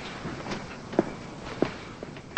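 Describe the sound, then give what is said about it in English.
A few soft, scattered footsteps cross quietly, then a door is shut with a sudden loud thud at the very end. “Yeah, shut the door.”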